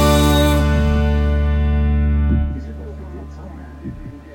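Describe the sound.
A loud, full pop track holds its final chord for a couple of seconds, then cuts off abruptly, leaving a quieter stretch where a voice begins speaking.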